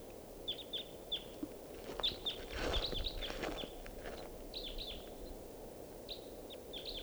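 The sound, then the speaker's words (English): A wild bird, apparently a male, sings a run of short, high, downward-slurred chirps in repeated song phrases over a steady low background rumble, with a brief burst of rustling thumps partway through. “Wild bird.”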